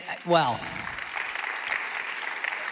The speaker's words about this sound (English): I want you, I know you're clapping what Convoy's doing, but I hope you're hearing this. It's what we're doing together.